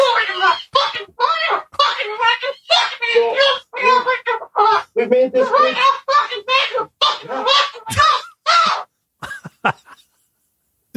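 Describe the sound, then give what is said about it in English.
A bird squawks angrily, loud harsh honking calls tumbling out in rapid, nearly nonstop bursts for several seconds, then a few sparse parting squawks before it falls quiet. “Never seen a bird that angry.”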